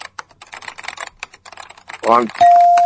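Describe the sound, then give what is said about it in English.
Rapid clicking of someone typing a sequence of commands on a computer keyboard to delete an account, for about two seconds, then a brief voice-like sound and a loud, steady electronic beep held to the end, signalling the deletion is done. “Hold on, I'm typing in the sequence of commands to delete your account right now.”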